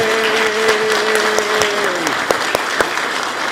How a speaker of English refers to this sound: So friends, in the name of Jesus Christ and on behalf of Union Congregational Church of Waupun, we extend to you the hand of Christian love, and you are officially confirmed. So let's all applaud for each other. Yay!